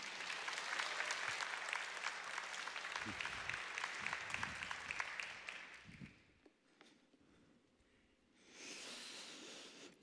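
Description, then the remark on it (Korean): An audience applauds to welcome a newly appointed pastor before his first sermon, in a steady, dense wash of clapping for about six seconds, then it fades out; a brief hissy burst follows near the end after a quiet gap. “우리 박수로만 모시겠습니다.”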